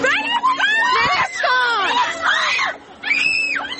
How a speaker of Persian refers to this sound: صدای فریاد و جیغ زنی که تنها اتهامش رعایت نکردن حجاب است که آن را اجباری می‌داند.